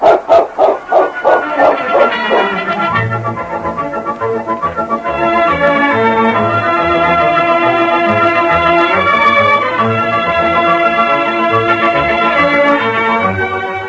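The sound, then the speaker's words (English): The dog King gives a quick run of loud, rhythmic barks, almost yelping, for about two seconds before orchestral music swells in and carries on steadily to the end. “You're a good dog, King.”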